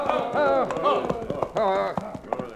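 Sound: horse hooves clip-clopping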